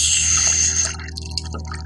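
A knife blade heated in a fire is plunged into a vessel of water, giving a sharp hiss that fades over about a second into faint bubbling and trickling, with a low steady hum underneath.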